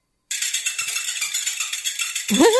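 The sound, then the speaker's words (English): Many water balls bouncing on their own in a pretty big frying pan make a dense, continuous, hissing rattle of rapid tiny clicks, with a brief rising squeal near the end. “You know, it just looks weird that the balls keep bouncing on their own.”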